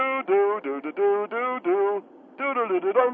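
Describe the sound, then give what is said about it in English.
A single voice hums the Jeopardy thinking music with the mouth, lasting about 5 seconds: a run of short sustained notes in a steady rhythm, a brief pause, then more notes, with a thin, phone-like tone. “That's the Jeopardy music.”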